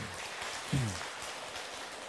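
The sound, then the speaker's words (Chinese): An audience claps steadily for a Dharma master after his talk on the third chapter, a dense, even patter that never breaks, with a short low voiced sound rising briefly above it partway through. “大家给他一个掌声。”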